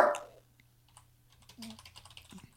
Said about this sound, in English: Are you putting, I hear keys tapping. Are you putting this in an anagram? No, no, letter mover? I'm just putting it on notepad.